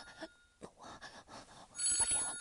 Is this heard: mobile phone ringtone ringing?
yes